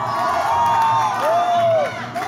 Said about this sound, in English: in front of a noisy crowd of B-girls, B-boys, and fans.